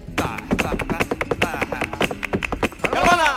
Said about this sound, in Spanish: El aprendiz de bailaor, el aprendiz de bailaor Chano, está ensayando el arte del taconeo flamenco. Bien, Chano, bien taconeado ahí.